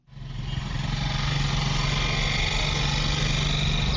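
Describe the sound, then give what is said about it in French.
A small motorcycle taxi engine runs steadily in a street in Yaoundé as the rider takes a passenger aboard, its buzzing drone swelling in within the first half second and holding level, with a broad hiss of street noise around it. “embarque un passager à bord de sa moto à Yaoundé”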